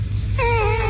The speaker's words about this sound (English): First, a sleeping cat whose owners have put a reverb-heavy karaoke microphone in front of its mouth as it gently sleeps on a pillow. And the sound is amazing. It sounds... It's a cat sleeping.